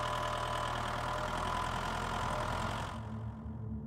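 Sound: tractor engine idling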